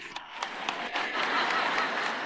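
An audience breaks into applause, starting with a few scattered claps that quickly build into a steady, dense wash of clapping that holds at a moderate level.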